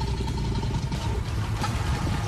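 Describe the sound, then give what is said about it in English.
A deep, throaty alligator growl rumbles on steadily for a couple of seconds, low and gravelly like an idling engine, with a faint tonal hum above it and no voices. “Is that an alligator? It's an alligator.”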